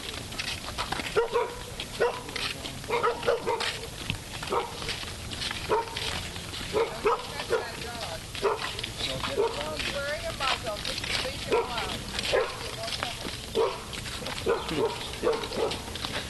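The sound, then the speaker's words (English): A dog wearing a muzzle barks repeatedly across the whole stretch in short bursts, while people talk in the background over a busy, noisy ambience. “She says, don't touch the dog, it's wearing a muzzle.”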